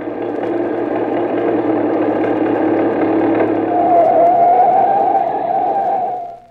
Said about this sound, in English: I stepped to the side of the road as I heard a car approaching.